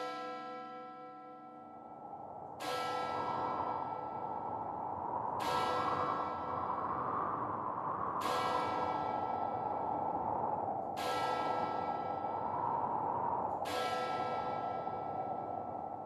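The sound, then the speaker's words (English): The heavy bell of a neighbouring church tolls slowly and steadily, about six evenly spaced strikes, each ringing out and blending into the next with a rich, sustained hum. No one speaks. “when the chimes of a neighboring church began to toll.”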